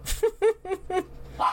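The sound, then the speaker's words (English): A dog named Freddy barks four times in quick succession, sharp, followed by a brief higher-pitched yelp; no one speaks. “Oh my god, I'm gonna murder this dog today.”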